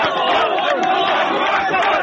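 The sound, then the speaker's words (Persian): A large crowd of people in Gaza cheers joyfully as a ceasefire lets them return to their homes, a dense, continuous roar of many excited voices with shrill whoops and calls rising above it, loud and steady throughout. “صدای شادی مردم غزه است، زمانی که با فرمان آتش‌بس قرار شد به خانه هایشان بازگردند.”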